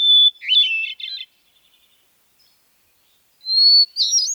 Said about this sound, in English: The hermit thrush sings ethereal, paired phrases, long flute-like notes backed by complex, reedy phrases.